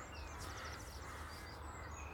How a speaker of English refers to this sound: But there's an island in the lake behind me here where I'm sitting, and thousands of crows goes there every night from all over the area. They meet there at night and they roost there at night.